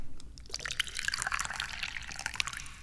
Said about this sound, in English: And how do we start off every episode of the Dubious Goals Committee? That's right, we pour some tea.